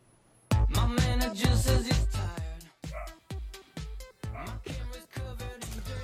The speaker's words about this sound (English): We're laughing because there's a dog barking. We're in a hotel room. We're 22 stories high in Vegas in a hotel room, and there's a dog barking. Do you think it's outside? I don't think it's next door.